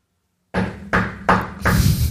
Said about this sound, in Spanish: Vamos a las visitas de la casa de esos que tocan la puerta. Domingo. Ay, es que la tocada de la puerta da mucha pereza, hermano.